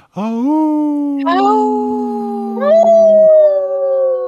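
wolf howling

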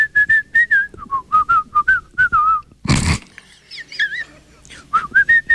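person whistling a tune

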